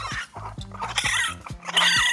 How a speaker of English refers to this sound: Raccoons communicate with each other using 200 different sounds and 12 to 15 different calls. Baby raccoons, known as kits or cubs, purr and coo.